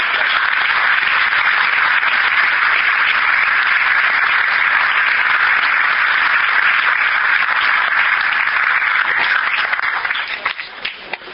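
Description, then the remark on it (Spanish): A sustained wave of audience applause for the REA, dense and loud with many hands clapping at once, holding steady for about ten seconds before thinning out into a few scattered claps. “Y por último, hace años, yo creo que todos nos merecemos un aplauso porque la REA está viva y quiere seguir viviendo.”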